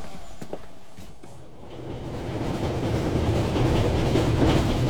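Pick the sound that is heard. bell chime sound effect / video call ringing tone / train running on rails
train running on rails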